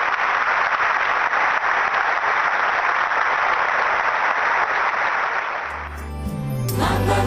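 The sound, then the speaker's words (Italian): An audience breaks into steady, dense applause that holds for several seconds, then fades as organ or keyboard music and singing begin to rise. “Se volete, possiamo sottolineare la bellezza e l'importanza di questa decisione con un bel applauso.”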